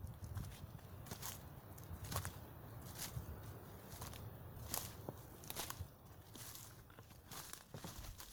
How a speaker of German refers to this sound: Neugierig und zugleich auch ein wenig ängstlich, gehst du ein paar Schritte in den Wald hinein.